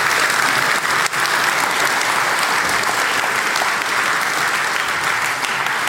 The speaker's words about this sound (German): Genau. Applaus für die Bar.